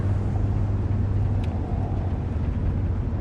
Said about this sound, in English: Now she rides home on the passenger side of Lewis's truck. She glances to him, then stares out at the night with a faraway look haunting her eyes.